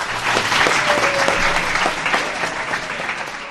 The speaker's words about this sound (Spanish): Bueno, un aplauso para él.